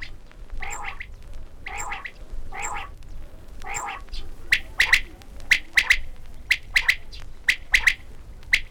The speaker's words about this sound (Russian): Закатится солнце, а с полей заслышится перепелиная перекличка. Дай попить, дай попить. А ему отвечают с ваваканьем. Спать пора, спать пора.